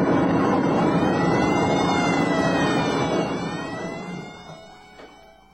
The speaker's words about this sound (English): Listen to all those damned alarms!